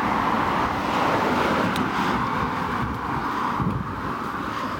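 street traffic

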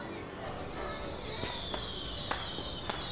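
fireworks exploding

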